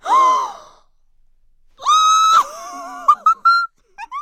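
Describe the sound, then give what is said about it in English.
A loud, shrill yell from Pippi as she finds a rusty old tin in the grass: a short cry, a pause, then a long piercing shout trailing into several quick, sharp yelps. “All of a sudden, Pippi gave an ear-splitting yell.”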